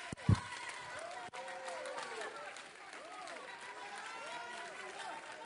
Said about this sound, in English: This is a one God apostolic aisle running, chandelier swinging, carpet cleaning, voice shouting, hand clapping, foot stomping.